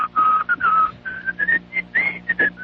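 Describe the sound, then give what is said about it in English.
A person whistles the Old Spice aftershave advertising jingle, a short, bouncy, quick run of clear notes rising and falling in a catchy phrase, fairly loud with no talking. “Can you whistle the Old Spice jingle?”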